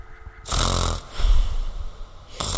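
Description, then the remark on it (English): A voice imitates a deep, rattling sleeping snore: a loud inhaled snore, a rumbling exhale, then the start of another snore, with no words. “Like deep snore, like deep sleeping snore.”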